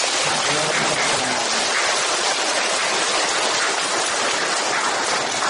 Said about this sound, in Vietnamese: Kính mời mọi chúng ta hãy cho một tràng pháo tay.